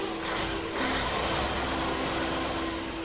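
A livestock transport truck loaded with piglets drives off from the yard of the collection station in Wettringen in the afternoon sun, its engine giving a steady, droning rumble with a constant low hum running through it. The sound holds an even loudness throughout, with no voices.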